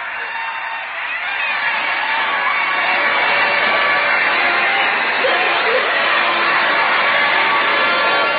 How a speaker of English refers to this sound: He's throwing rice. We'll let you listen to this crowd once more. Come on downtown.